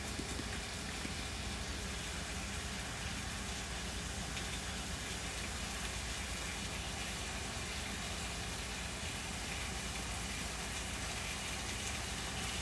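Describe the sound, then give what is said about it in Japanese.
Sweet potato slices sizzle steadily in a frying pan as they are fried on both sides, a constant crackling hiss that stays even and unbroken, with no talking over it. “さつまいもをちょっととりあえず両面焼いていきます。”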